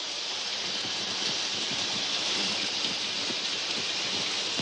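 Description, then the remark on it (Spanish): Shower water runs in a steady, continuous hiss as a naked man steps into a shower, a dense, even spray that stays at the same moderate level throughout, with no voices. “Un hombre entra desnudo en una ducha cercana.”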